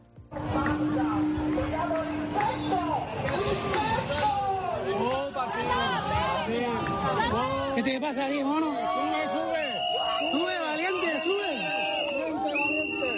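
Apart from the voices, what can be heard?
protesters shouting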